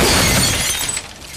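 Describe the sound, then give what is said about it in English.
A stylish glass coffee table, hurled off a 20-story building, shatters in one loud, sharp crash, a dense burst of breaking glass that fades into scattered tinkling debris. No one speaks. “Now a stylish glass coffee table.”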